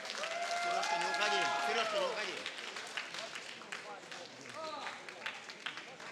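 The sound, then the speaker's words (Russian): An audience claps steadily for a singer on stage, a dense wash of applause that swells early and then thins out, with voices calling and cheering over it. “Еще раз, …, искупайте в аплодисментах!”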